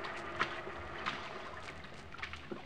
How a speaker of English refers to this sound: We climbed the ladder through the hatch where an inflated rubber boat was waiting to take me to shore.